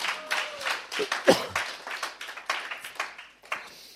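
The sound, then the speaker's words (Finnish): An audience claps steadily, a dense crackle of many hands with a few louder individual claps standing out, sustained for several seconds without anyone speaking. “He saa taputtaa.”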